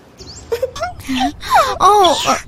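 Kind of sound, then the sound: human body sound, person crying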